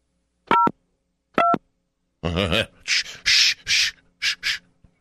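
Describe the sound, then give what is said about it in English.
Two short touch-tone beeps sound about a second apart as someone dials a phone number, followed by a brief harsh voiced sound and a run of loud scratchy, hissing bursts. “He's trying to dial a phone.”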